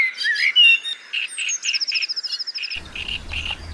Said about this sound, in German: Es ist noch sehr früh, da ist das Vogelgezwitscher in unserem Garten besonders intensiv.